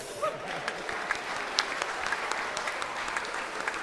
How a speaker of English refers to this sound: Beautiful. Give yourselves a clap.